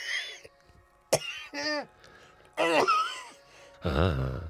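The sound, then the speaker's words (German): A few raspy coughs and throat-clearing bursts come in separate fits over a few seconds, loud and harsh with short quiet gaps between them, with no speech. “Ich hab plötzlich einen Husten.”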